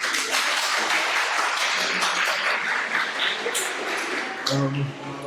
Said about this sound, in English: So, applause for our first volunteer.